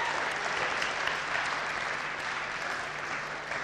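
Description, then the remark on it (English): A steady round of audience applause for children, many hands clapping in a dense, even wash that holds at a fairly loud level for several seconds with no voices standing out. “Okay, let's give the children a clap for doing that.”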